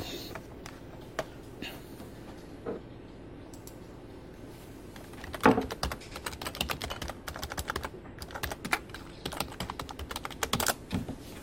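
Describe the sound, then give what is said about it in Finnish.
Clatter of a computer keyboard being typed on, scattered keystrokes at first, then quicker, denser bursts of clicks over a low background hum. “Oho, nyt oli väärä nappula, mitä painoin.”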